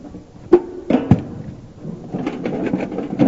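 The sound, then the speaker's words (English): Metal tools clank and knock as someone rummages through an unorganized toolbox and pulls out a hammer: a few sharp thuds early on, then a steady stretch of shuffling, rattling clatter. “Sorry, my toolbox isn't organized.”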